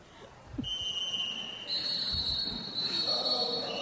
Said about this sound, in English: And lots of contact, lots of whistles. Something, ooh. That was an official end to a jam by our head ref.